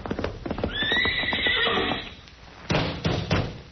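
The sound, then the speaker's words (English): A male horse lets out a loud, drawn-out whinny that rises and wavers for about a second, over a rhythm of clip-clopping hoofbeats, followed by a few heavier thuds and snorts. “Hey, that's a nice horse you got there”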